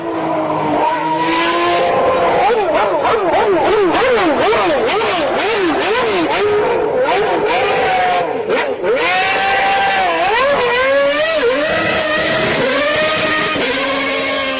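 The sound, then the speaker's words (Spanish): Several high-pitched Formula 1 engines scream loudly and continuously, their pitch whipping up and down rapidly through gear shifts and revs, as if multiple cars are racing. “Dentro de poco puede que el sonido de los motores de Fórmula 1 se convierta en algo más habitual en los televisores checos de lo que lo es actualmente.”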